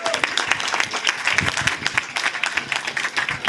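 A crowd bursts into steady applause, dense overlapping claps filling the space at a fairly loud level for a few seconds, with no voices standing out.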